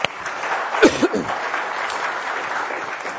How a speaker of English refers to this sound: Wow, amazing. Give her a clap. Whee!